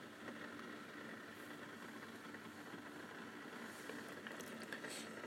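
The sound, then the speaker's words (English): A pod coffee brewer with a K-cup put in heats up, giving off a steady, kettle-like hum with a low mechanical rumble and faint hiss that holds evenly throughout, with no talking. “Now, you'll hear it. It sounds like a kettle.”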